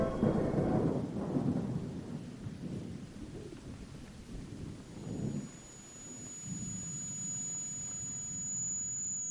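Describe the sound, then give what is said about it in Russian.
Deep, rolling thunder from the direction of a bay rumbles low and heavy, swelling at the start and again midway before fading into a steady grumble, with no voices present. “Со стороны залива угрожающе заворчал гром.”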